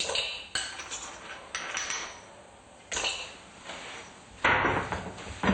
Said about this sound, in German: Wir geben jetzt die weiteren Zutaten in unseren Mixer, nämlich Cashewnüsse, 2 Löffel, da wir heute 2 Personen sind.